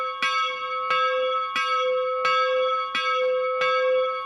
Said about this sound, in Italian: D'altra parte abbiamo anche le campane di Castasegna, chiesa che è stata costruita dopo la riforma, che porta lunghe iscrizioni che rinviano alla loro comunità.